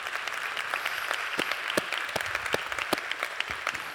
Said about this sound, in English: And by the way, people in Siena are listening to you applaud right now. They can hear you.